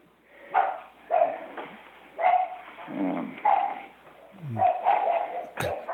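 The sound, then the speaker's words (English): Dogs bark repeatedly in short, uneven bursts, moderately loud, with a few whiny yelps mixed in between the barks, as somebody comes to the front door. “And your dogs are agreeing.”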